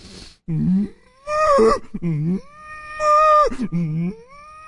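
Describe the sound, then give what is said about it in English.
A person's voice imitates a cow's moo: several drawn-out, low lowing calls in quick succession, each swelling and sliding in pitch, fairly loud with no words spoken. “I mimic cows. They're not hard to mimic because they don't say anything. They go like this.”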